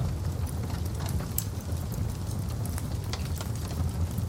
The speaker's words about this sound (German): Ein Kaminfeuer prasselt in einem Bauernhof 30 Kilometer weiter westlich im Dorf Niederurf.